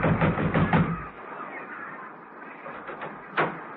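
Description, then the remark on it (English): A quick run of heavy, dull thumps on the wooden door of a lighthouse on a cliff, then a quieter stretch of scuffling noise and one last sharper knock. “Peel walked boldly up the path and banged on the door.”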